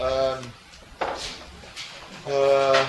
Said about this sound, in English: Door, sorry.